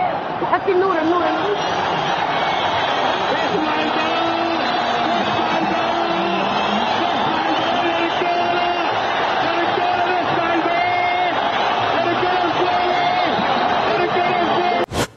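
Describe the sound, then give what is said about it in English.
A huge crowd in Egypt roars in celebration as Hosni Mubarak leaves power. It is a dense, sustained wall of cheering, whooping and shouting voices that stays loud and steady throughout without pause. “Listen to that crowd. That's what they've been waiting for.”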